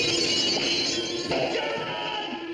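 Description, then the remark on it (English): A glass window in a door shatters loudly as a person's face breaks it, a bright, sustained crash of breaking panes with scattered tinkling debris throughout, and no voices. “Then an orderly's bloody face breaks the glass.”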